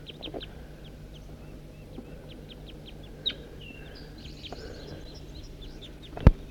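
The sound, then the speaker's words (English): A flock of about eight crossbills calls as they forage in a tree on a hilltop, a steady scatter of short, high chip notes from several birds over a low background rumble. A sharp knock sounds near the end. “I'm on my way up to the hilltop and I see a whole bunch of crossbills foraging in a tree right here.”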